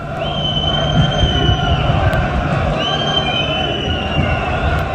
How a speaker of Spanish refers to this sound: en el momento en el que Laporta se marchaba por el césped para dirigirse al autobús, y le han cantado Barça sí, Laporta no, y queremos la grada de animación.